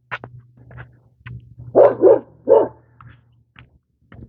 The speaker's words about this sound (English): Bark, bark, bark, dog. Easy, dog.